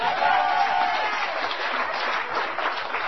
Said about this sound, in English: There's a little tentativeness in that applause, I know.